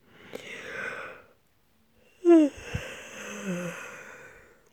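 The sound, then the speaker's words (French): A big, deep, deliberate yawn, made as wide as possible: a long breathy inhale, then a short voiced groan that rises and falls before trailing off into a soft, airy exhale. “Ouvre la bouche et fais le plus grand bâillement que tu peux faire.”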